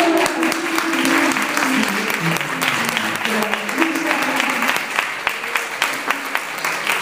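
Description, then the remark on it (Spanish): An audience breaks into sustained applause for a woman invited up to sing, a dense patter of many hands clapping steadily for several seconds, with a few voices murmuring and calling out underneath the clapping. “un aplauso”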